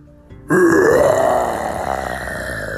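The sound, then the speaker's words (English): A person imitates a dinosaur roar: one long, loud, growling vocal blast that bursts in suddenly, with a rising then sliding pitch, gradually fading but still rumbling at the end. “Oh yeah, I'm really good at making dinosaur sounds. Watch this. And Bert took a step back and let out a big roar.”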